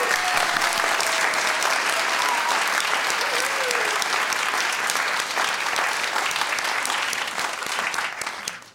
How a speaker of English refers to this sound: He's out in the audience tonight, and I think we should give him a great big round of applause.